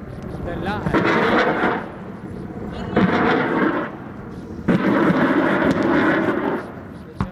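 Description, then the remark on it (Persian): Exchange of fire between Iraqi Counter Terrorism Service forces and Islamic State militants southwest of Mosul, Iraq, while Iraqi army helicopters bomb militant positions: bursts of heavy gunfire and booming blasts in three loud waves, with sharp cracks between them over a rumbling background and faint voices. “تبادل آتش میان نیروهای دستگاه مبارزه با تروریسم عراق و شبه نظامیان گروه حکومت اسلامی در جنوب غرب موصل.”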